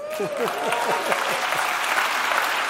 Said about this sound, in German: Er macht das toll. Alle klatschen, die mich nicht brauchen.